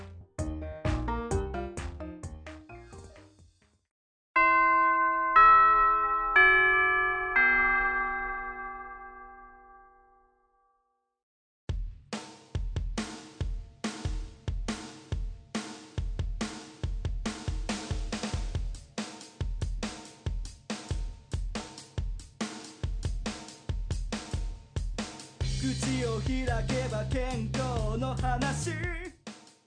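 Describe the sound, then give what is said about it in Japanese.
A school chime rings long, marking time to wrap up the activity. Clear, ringing bell tones play a slow descending-and-rising melody, each note decaying gently, set between stretches of rhythmic music. “チャイムも鳴りましたので、そろそろ活動のまとめをしていきたいかと思います。”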